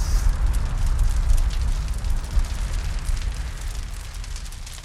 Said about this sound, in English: So the familiar crackle of the Stats Furnace has returned to the Watford Gap.